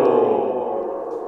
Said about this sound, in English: What's with the echo effect? Doesn't that make it seem like you're talking to like just an empty canyon, like there's nobody listening or something?